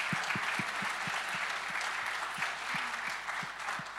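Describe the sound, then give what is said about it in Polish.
An audience applauds the jury at the Smart City Challenge awards, many hands clapping steadily in a dense, even wash of sound that holds at a moderate level for the whole stretch, with no one speaking. “Zanim ogłoszę zwycięzcę Smart City Challenge, który jest ostatnią kategorią poza trzema głównymi kategoriami, ja bardzo chciałam też jako przewodnicząca jury podziękować jury za współpracę i pracę i nagrodzić oklaskami.”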